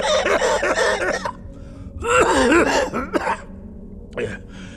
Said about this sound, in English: Then the old man shook as he violently coughed.